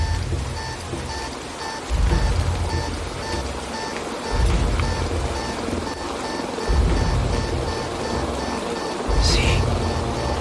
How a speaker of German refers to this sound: Der Regen prasselte erbarmungslos auf uns nieder, durchtränkte unsere Kleidung binnen Sekunden und sickerte durch bis auf die Haut.